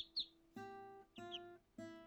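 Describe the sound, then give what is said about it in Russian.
A couple of quick, high sparrow chirps ring out over a backdrop of three sustained, organ-like musical tones that start and stop in a steady rhythm. “Но когда воробей позвал его полетать, мышонок понял, что воробей не может быть ему другом.”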